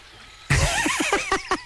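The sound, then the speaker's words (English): Birds chirping outdoors by a golf putting green, a burst of bright, sweeping calls followed by a quick run of short repeated chirps, clear, with no talking. “The birds are chirping.”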